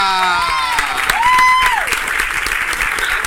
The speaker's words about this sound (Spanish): Lo vamos a recibir como se lo merece, con un fuerte aplauso